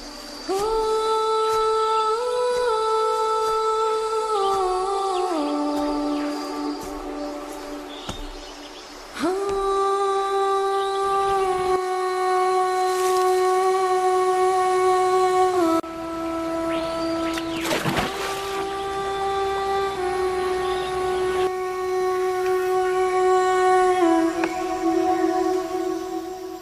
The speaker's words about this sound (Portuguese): Raios pálidos de luz se espalharam devagar pela água e, após alguns minutos, ouviu-se o som, que é, ao mesmo tempo, o som mais melodioso e mais melancólico do mundo. As sereias cantando para a lua.